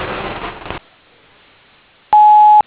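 A single loud, steady electronic beep of a contractor business's voicemail, signalling callers to leave a name and number, lasting about half a second. It follows a brief burst of hiss and a moment of near silence.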